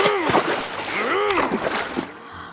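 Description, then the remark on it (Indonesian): Water splashes and sloshes steadily as a boatman's boat pushes through swamp water choked with water hyacinth leaves and stalks, moderately loud, with wordless voice-like murmurs rising and falling over it. “Tukang perahu itu kesal karena daun dan tangkainya menghalangi perahunya melaju di rawa.”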